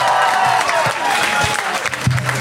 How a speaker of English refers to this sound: And the 100 Voice Choir. Give yourselves that a round of applause.